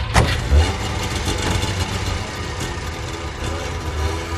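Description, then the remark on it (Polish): An old Syrena car engine runs with a steady, rattly low-pitched drone, loud and continuous, with a sharp knock near the start and faint clattering on top. “Było wstyd mieć syrenę, czy wstyd się w syrenie pokazać.”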